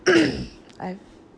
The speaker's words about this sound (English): I'm clearing my throat.